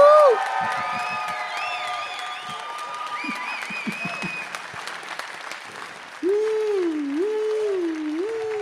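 An audience breaks into sustained applause, with loud whoops and high cheering shouts rising over the clapping, and a long wavering cheer near the end.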